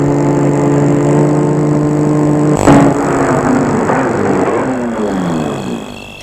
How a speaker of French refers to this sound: Il va arrêter la voiture devant la ferme.